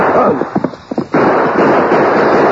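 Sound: gunshots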